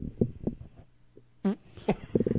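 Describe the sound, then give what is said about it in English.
A close, loud fart blasts into a microphone, a few short buzzy bursts, the strongest coming midway, with faint rumbling between them. “I'm going to fart into this microphone.”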